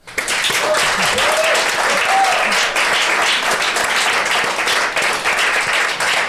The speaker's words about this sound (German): Großen Applaus.